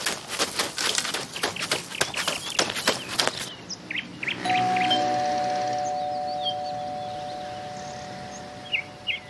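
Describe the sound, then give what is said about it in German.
The doorbell of a neighbour's first-floor home rings once with a steady, sustained tone that slowly fades, following a burst of rapid clattering. Faint birds chirp in the background, and no one speaks. “dann lass uns bei Frau Meier klingeln, aber leise”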